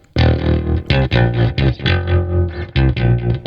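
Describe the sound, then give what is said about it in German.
A short, punchy musical jingle for the "Fragenhagel" segment, with heavily distorted, effects-laden tones in choppy bursts and stabs, loud and continuous for a few seconds with no talking over it. “Den Jingle, den habe ich richtig lang nicht mehr gehört.”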